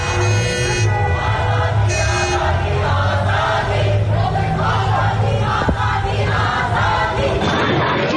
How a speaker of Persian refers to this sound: در قزوین هم معترضان در خیابان شعار اعتراضی سر دادند.